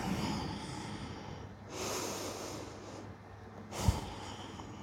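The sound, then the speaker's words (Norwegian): A slow, deep breath drawn in and then let out over about five seconds, two soft airy whooshes a couple of seconds apart, over quiet background hiss, with no talking; a person breathing deeply with a hand on the heart. “Kan du kjenne pusten din nå? Vi bruker 5 sekunder på det. Dypt inn og ut.”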